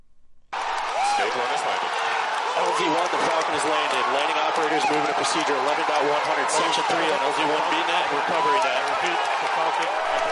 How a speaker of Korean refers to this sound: 네, 로켓이 착륙하는 순간 스페이스X 직원들이 환호성을 울리는 소리를 잠시 들으셨는데요. 네. 추진체가 발사 지점에서 약 10km 떨어진 착륙 지점에 사뿐히 내려앉은 겁니다.